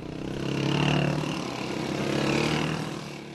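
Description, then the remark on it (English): Motorbike engines of more than 20 armed militants roaming the countryside drone and rev, swelling louder twice as they pass, with a steady buzzing hum in between and no voices. “Out in the countryside, more than 20 militants roam freely on their motorbikes, rifles and rocket-propelled grenade launchers on show.”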